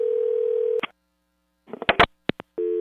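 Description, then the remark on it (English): In a Ford Focus radio advert, a steady telephone dial tone hums, cuts off, then a quick series of short keypad tones and clicks sounds as a call is dialled, before the dial tone resumes. No voices. “To prove it, we called them up.”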